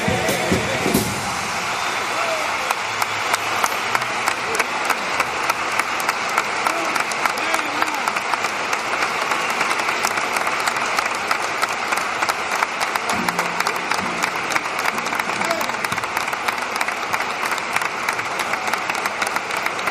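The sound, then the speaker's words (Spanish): A theatre audience in the stalls applauds steadily for Juan José Jiménez, an idol of Cádiz fans, moving toward his box: a dense, continuous wash of clapping that stays loud throughout, with faint murmurs and a few vocal sounds from the crowd underneath. “Tendrían ustedes que ver el patio de butacas aplaudiéndole, acercándose a ese palco donde se encuentra Juan José.”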